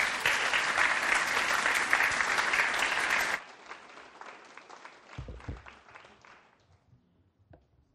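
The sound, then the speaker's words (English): A group of people at a recovering alcoholics' group meeting claps loudly for about three seconds after a speaker's talk, then the applause thins out into scattered, fading claps and a few faint bumps before falling quiet. “Have another round of applause”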